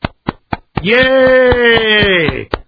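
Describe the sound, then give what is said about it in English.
Sharp hand claps in a steady, even rhythm, about ten in all, clapped live on a radio show in place of an applause track, while a loud sustained voiced cry rings out over most of the clapping before a final clap. “I'll just clap right here. Let's all clap together.”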